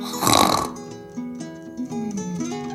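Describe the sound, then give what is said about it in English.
A person imitates a loud snore with one harsh, rasping snort near the start, followed by softer tonal, hummed sounds trailing off over a few seconds. “It's the loudest snore I can do.”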